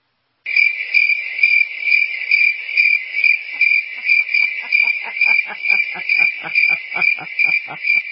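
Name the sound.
cricket chirping sound effect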